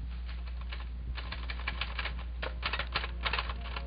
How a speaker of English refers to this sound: That's Ernie's typewriter you hear now. A few of the keys are stiff, the spacer doesn't work too well. Ernie's had a time with it. That's Ernie's typewriter.